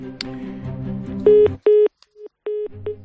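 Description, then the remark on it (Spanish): A telephone is hung up as a call ends over a murky, low rumble, then loud line tones take over: steady electronic beeps at one mid pitch, in four or five bursts of uneven length. “Estábamos colgando el teléfono.”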